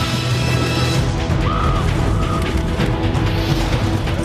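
A crow caws twice in quick succession, harsh, over a dense, rumbling wash of low ambient noise that fills the whole recording.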